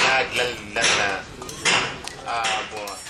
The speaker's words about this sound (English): Then he hits the metal with a small hammer